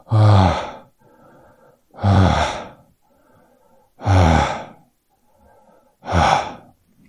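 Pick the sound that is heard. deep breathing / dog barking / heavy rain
deep breathing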